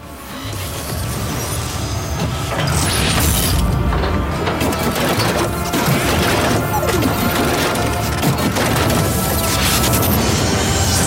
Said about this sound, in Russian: Союзники мои, приготовьтесь к ударной волне.